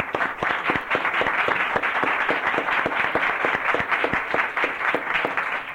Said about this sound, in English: I think on behalf of the Senate, I can say we can give you applause for the fine work that you do, and also for those in this rest of this building who do a very fine job as secretaries.